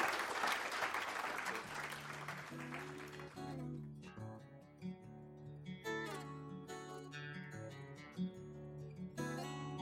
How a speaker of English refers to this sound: Thanks, guys. That's us, guys. One more round of applause for these guys.